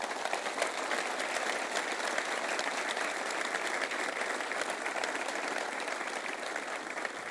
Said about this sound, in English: Please, a round of applause for the Hogans.